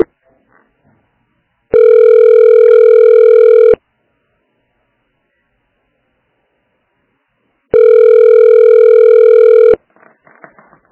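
A steady telephone ringback tone sounds twice during a call transfer, each burst about two seconds long with a long silent gap between, loud and clear, with faint voices murmuring briefly at the start and end.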